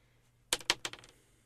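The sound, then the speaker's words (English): A single die, rolled in a tabletop game roll-off, clatters across a hard surface, a few sharp clicks that bounce quicker and quieter before settling, with no voices over it. “You two roll off. I want to know who got the lowest. One dice.”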